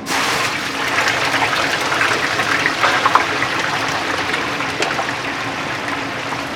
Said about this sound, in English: And that lovely fat there, cooking away those chips. Yep, cooking away. Fresh hand-cut chip, 100% potato.